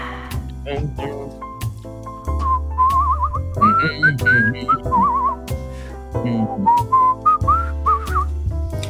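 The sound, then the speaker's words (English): Someone whistles a wavering, trilling tune, the melody running continuously for several seconds with warbling ornaments, over a steady low background hum. “How can I do anything with that beautiful whistling?”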